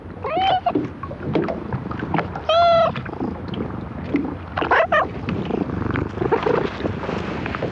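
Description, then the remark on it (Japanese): A friendly cat that approached the microphone purrs in a steady low rumble, broken by a few short, bright meows, at Takeura fishing port in Kanagawa town, Japan, with light outdoor background noise. “なんか近づいてきてゴロゴロ言ってたような。”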